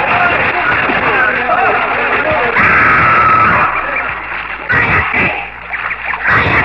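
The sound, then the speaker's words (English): A crowd of people shouts, whoops and laughs over continuous splashing water as they throw themselves into a lake with soft grass at its edges, beneath a great waterfall. Louder bursts of splashing come every few seconds, and the scene is busy. “We threw ourselves into the lake, shouting and laughing like children.”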